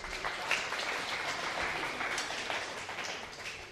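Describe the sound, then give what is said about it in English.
A steady round of applause from a crowd, dense and even clapping that fills the whole few seconds at a moderate level with no voices over it. “Big round of applause for my helpers.”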